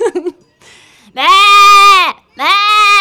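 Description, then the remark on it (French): A person in an imitation contest imitates a Limousin ewe bleating: two long, loud, quavering bleats, the second cut short. A brief vocal sound comes first, then a pause. “Une brebis limousine, on va essayer.”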